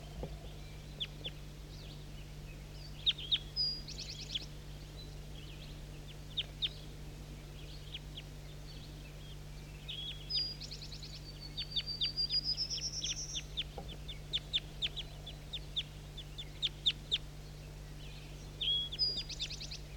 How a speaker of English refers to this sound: Start recording these birds that are close now. Definitely big guy.